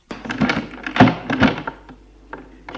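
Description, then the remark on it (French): A bedroom door being opened at night: a few solid wooden thunks and latch clunks in quick succession, then quieter clicks trailing off. No one speaks. “En trouvant la porte de sa chambre.”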